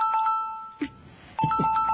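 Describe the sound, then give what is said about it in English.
An outgoing Signal Desktop call ringing tone sounds on a steady pitch, with faint higher overtones above it. It breaks off briefly in the middle and then picks up again. Two short low thumps fall between the tones. “I'm allowing access, and now we're calling Alex. Start call.”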